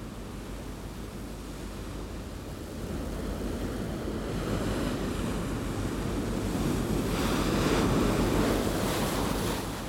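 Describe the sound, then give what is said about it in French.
A stormy sea roars with strong wind and crashing waves, heard aboard the British research icebreaker James Clark Ross on 22 March 2016, with wind at force 12 Beaufort, over 120 km/h; a dense, continuous rumble of surf and gusts that swells louder partway through, with no voices. “Nous sommes le 22 mars 2016 et nous faisons face à une tempête.”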